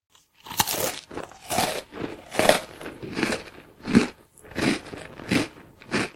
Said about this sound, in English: Listen, Snuff. Hear that munching? That pumpkin chief is pumpkin lunching.